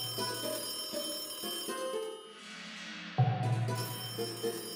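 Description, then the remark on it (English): A telephone in the kitchen of a house rings with bright, bell-like tones in steady repeated bursts, fairly loud, with a short lull before the ringing resumes. No one speaks. “happened to be in the kitchen when the phone rang.”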